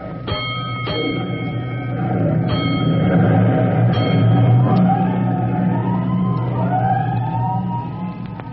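A fire engine siren winds up and wails over the heavy rumble of the big engine as a fire company's engine rolls out of the firehouse on an alarm, with sharp bell-like clangs early on as the vehicle starts to move off.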